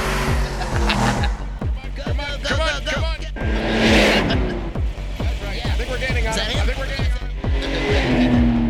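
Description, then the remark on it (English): A car chase: a tow truck, towing a Saturn, chases a carjacked Ferrari; a loud revving engine roars continuously while tires squeal in bursts, with voices shouting faintly underneath the action. “How fast can this tow truck go? Yeah, we were chasing a Ferrari.”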